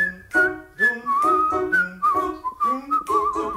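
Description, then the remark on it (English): A person whistles a bright, bouncy pop melody, the tune moving through short phrases and sustained notes with brief breaths between them. “Next song about whistling.”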